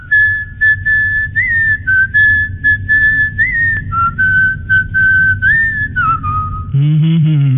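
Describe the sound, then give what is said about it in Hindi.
A person whistles a melodic song tune, a steady bright line gliding between notes for several seconds over a low background hum, ending in a brief louder burst. “तो अभी सॉन्ग्स की बात रही है तो चलिए सॉन्ग का रैपिड फायर हो जाए सीटीओ के साथ गाने।”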